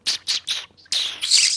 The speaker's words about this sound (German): Oh, eine Amsel.